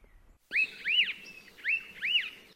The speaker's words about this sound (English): Elepaia was often the first bird to be heard as the forest day begins with these charming phrases. And here is the famous Elepaio woof whistle.